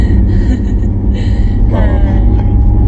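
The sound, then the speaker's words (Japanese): Steady, loud low rumble inside a moving car that is swaying from side to side, continuous throughout, with some faint higher whining tones and breathy sounds layered above it, on a hot, sunny day of about 32 degrees. “車がちょっと今左右にこけたり揺れてます。”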